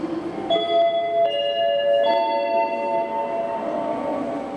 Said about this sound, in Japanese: まもなく3番線に17時5分発小樽行き普通列車が到着いたします。危険ですので白線より下がってお待ちください。